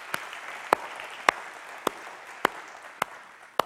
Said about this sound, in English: We're glad you're here. Let's give them a hand. Welcome them to our church.